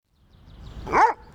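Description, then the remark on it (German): A single short, sharp dog bark rising out of a low background rumble with no one talking. “Schön, der Hund. Ist das dein Hund?”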